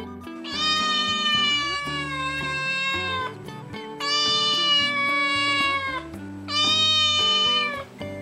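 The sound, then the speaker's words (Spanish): A cat meows three times, each a long, drawn-out, wavering cry with short pauses between them, loud. No one speaks. “Empezamos por uno fácil. Es un gato.”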